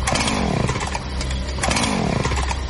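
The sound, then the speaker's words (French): A chainsaw, used outside by a man wearing a mask, roars loudly, revving up twice in quick succession with a harsh, buzzing whine over a steady rumble, and no voices. “Regarde dehors, il y a un monsieur bizarre avec une scie mécanique et un masque.”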